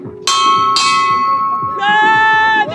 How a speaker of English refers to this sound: It includes having them set an intention, jumping across the line and getting a little dirty in the dust, and then ringing a bell and announcing themselves to the city.